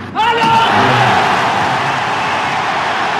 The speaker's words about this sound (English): And you'll know if he gets this point, we'll just let you listen to the roar of the crowd.